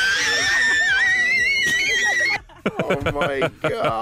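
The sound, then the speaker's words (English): A child, reacting to Justin Bieber, lets out a long, shrill, wavering scream that sounds like a whistling steam kettle, lasting about two seconds, then breaks into choppy vocal sounds and talking. “Right, so that's a steam kettle that you would have, and then this is the kid.”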